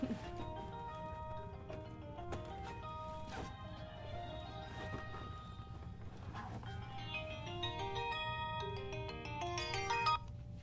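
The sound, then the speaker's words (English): A misplaced phone rings with an incoming call, its ringtone playing a repeating electronic melody of bright, high-pitched tones, growing busier and louder toward the end, over a steady low background hum. “Beeping. This always happens. I can't find the darn thing.”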